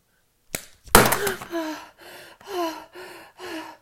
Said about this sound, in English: Would you slap me like that? To make me behave?